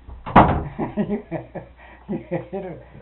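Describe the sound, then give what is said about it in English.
A door shuts with a single solid thud near the start, fairly loud, followed by voices talking and chuckling. “You're going to get in the house, close your door.”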